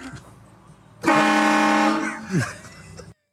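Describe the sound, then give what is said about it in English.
A novelty car horn blares one loud, sustained, buzzy blast lasting about a second, then gives a shorter, quieter toot, with low road-like background noise before it. “You're allowed to put them on your car. Just can't honk them.”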